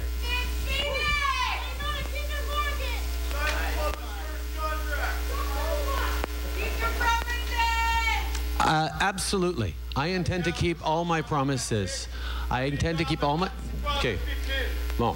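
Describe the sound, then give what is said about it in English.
A crowd of delegates at a gathering boos and jeers Justin Trudeau as he tries to speak, a dense mix of overlapping voices for several seconds, then a man speaks clearly over lingering crowd noise and a steady low hum. “Trudeau was booed when he told the gathering that precarious work, including jobs with no pensions, is now a fact of life for young people.”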